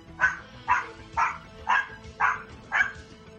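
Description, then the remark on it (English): A dog barks six times in a steady, evenly spaced rhythm, each bark short and sharp at moderate loudness, with no talking over it. “Well, the dog seems to enjoy it.”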